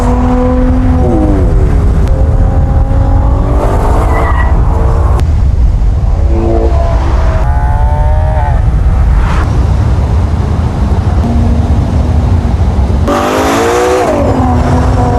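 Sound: car driving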